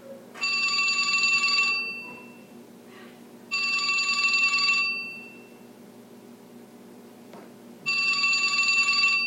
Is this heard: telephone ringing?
yes